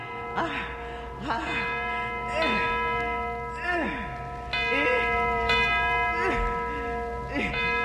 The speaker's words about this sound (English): Here's the bell, and here's the cord. Now I'll swing it hard.